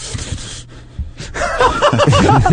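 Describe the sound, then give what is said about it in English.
A voice imitates a man's heavy, excited breathing in the USC student section: quick breathy huffs at first, then louder voiced panting gasps that sound almost like snickering, growing stronger toward the end. “This is how he's breathing the whole time.”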